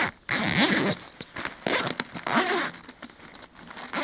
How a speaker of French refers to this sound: Première particularité pour l'ouvrir, les fermetures éclair finissent dans le dos. Ça c'est pour éviter le vol en fait, tout simplement. Vous pouvez l'ouvrir.